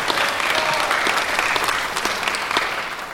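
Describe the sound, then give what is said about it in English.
A church audience claps together for Jesus in a steady, dense round of applause, many hands overlapping into a loud continuous wash with sharp individual claps popping through. No one speaks. “Come on, somebody give Jesus a hand clap in this house.”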